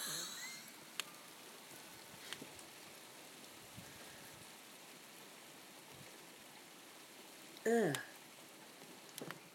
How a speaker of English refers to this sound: I think it's raining.